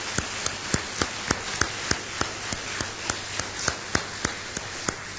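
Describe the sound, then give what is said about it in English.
Applause in the form of steady, evenly spaced hand claps, roughly three per second, crisp and sharp over a soft constant hiss, with no talking. “I think the rest of us can give a big round of applause.”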